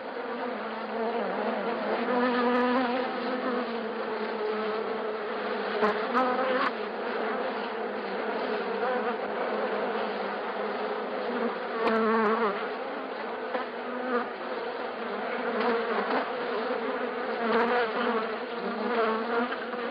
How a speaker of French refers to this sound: C'est presque un doux bruit, s'il n'y en avait pas autant d'abeilles. Et ça va être presque, je pense, un bruit, un son qui va bientôt être juste de l'histoire ancienne, puisque les abeilles disparaissent, malheureusement.